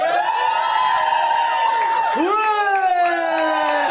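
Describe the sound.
A crowd cheers loudly and steadily, with sustained whooping voices that dip in pitch midway before surging back up, holding a full, continuous roar throughout.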